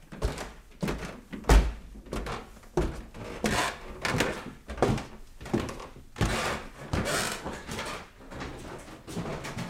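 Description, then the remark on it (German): An attic door thuds, followed by a run of heavy, uneven knocks and creaks of someone climbing a very creaky old wooden staircase, with no talking. “Das ist jetzt diese Türe zum Estrich. Da hat oben Otto mit seiner Frau Fritzi, mit der zweiten Frau, gelebt. Das ist eine sehr knarrende Treppe.”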